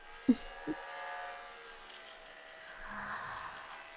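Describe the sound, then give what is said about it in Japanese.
An anal vibrator, said to vibrate by magic power, buzzes steadily throughout, a continuous mid-pitched electric hum. Two brief low thumps come at the start, and the buzz swells slightly near the end. No one speaks. “アナルバイブよ。ああ、あなたは知らないかしら。魔法の力で振動してる針型ティルト。”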